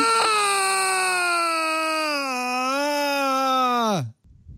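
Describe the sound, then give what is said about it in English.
A single long human scream, sent through Iceland.com from Petaluma, United States, played through a giant loudspeaker set up in a field in the middle of nowhere in Iceland; loud and held steady for about four seconds with a slight wavering pitch, then sliding downward and cutting off abruptly into faint noise. “So this is an actual field in the middle of nowhere in Iceland with a giant speaker set up.”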